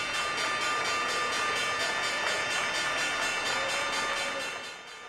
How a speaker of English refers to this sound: What you're about to hear now is the sound of Time Inc. ringing the opening bell at the New York Stock Exchange Monday.